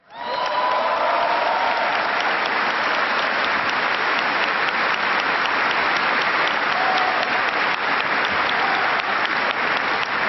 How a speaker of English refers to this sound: give a big round of applause to the ….